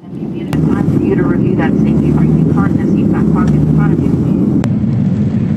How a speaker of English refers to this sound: You can see flames shooting out from the plane there.